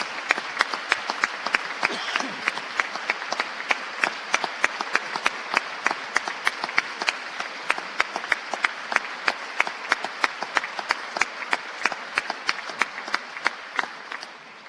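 Sustained audience applause for Missouri educators fills the whole stretch, a dense steady patter of many hands clapping at an even loudness with sharp individual claps standing out, and no voices.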